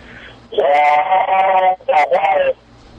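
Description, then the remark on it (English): A human voice imitates a train whistle with the throat: two loud, reedy, wavering blasts, a long one followed after a brief gap by a shorter one, with nothing else around them. “Now, there are people, I've seen those wooden things you buy at Cracker Barrel, you blow in them, it makes a train sound. You did that with your throat.”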